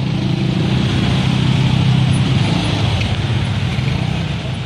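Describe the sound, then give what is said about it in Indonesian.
Dense road traffic in a jam as the rain eases and many vehicles resume their journeys, with a steady, loud wash of idling and crawling car engines and a low rumble that never lets up for the whole stretch. “Nah, tentu banyak kendaraan yang melanjutkan perjalanan.”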